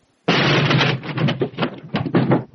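A sudden loud crash as someone who climbed onto a desk chair to reach the ceiling tumbles off it onto the floor, followed by a couple of seconds of clattering, rattling thuds that trail off unevenly. No one speaks.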